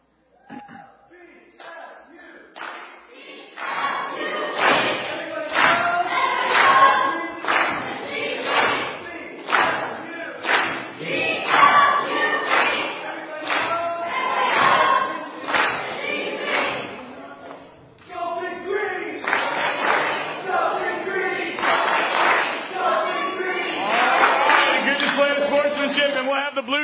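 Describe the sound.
The blue team, a group of voices, shouts a loud, rhythmic victory cheer in repeated bursts, punctuated by thumping beats, pausing briefly partway through before the chanting surges back.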